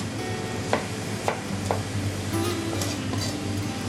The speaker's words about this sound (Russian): Теперь мы берем грушу, отрезаем от нее небольшой, в общем-то, кусок. Кожицу убираем, нет? Кожицу уберем, потому что кожица, она более грубее. И нарезаем ее кубиком, не крупным.